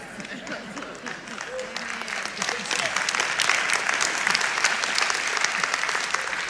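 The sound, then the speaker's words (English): An audience, including people over 45, claps steadily, many hands making a dense, crackling patter that swells louder after a couple of seconds and holds strong to the end, with faint voices mixed in. “Thank you for everyone over 45 who's clapping.”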